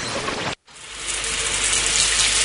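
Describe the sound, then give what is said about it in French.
Shower water runs in a steady, dense hiss, cuts out for a split second, then returns and swells slightly louder. No one speaks. “Quand j'écoute ma radio sous la douche”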